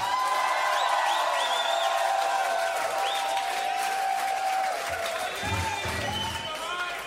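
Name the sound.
audience clapping hands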